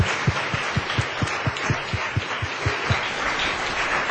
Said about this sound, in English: Before we turn to acknowledging the commitments, can I have just one final round of applause for the entire panel?